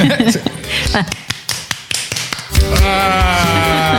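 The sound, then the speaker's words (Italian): In a studio, a woman claps with her armpit to mimic applause: a quick, uneven run of about a dozen sharp, flat slapping pops, followed by a loud sustained voice that takes over at the end. “alla mia destra c'è lei, la donna che può applaudire con l'ascella”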